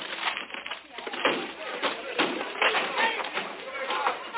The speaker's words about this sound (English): All right, men, break down the door.